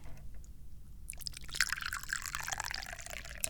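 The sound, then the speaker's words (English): Da Hong Pao (Big Red Robe) tea streams from a teapot into a cup, starting after a brief quiet moment and splashing steadily, its gurgling tone rising in pitch as the cup fills. No one speaks. “So let's get that lovely teapot pouring some tea.”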